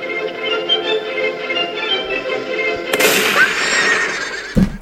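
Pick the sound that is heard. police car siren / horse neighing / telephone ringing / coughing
horse neighing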